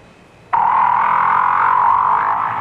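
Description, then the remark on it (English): A whale's croaking grunt, made deep down in the ocean, bursts in abruptly and holds as one loud, buzzy, mid-pitched tone for about two seconds, steady and unbroken, with no voices. “If you agreed with these guesses, you've been fooled, because each sound was made by a whale. That's right, a great big blubbery old whale just buzzing and clicking and grunting away deep down in the ocean”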